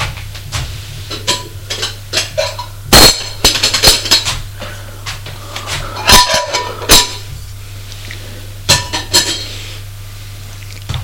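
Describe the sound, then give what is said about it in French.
A woman lifts an aluminium saucepan off a kitchen stove with a run of light metallic clinks and knocks over a steady low hum, with no talking. “Elle va à la cuisinière prendre une casserole en alu.”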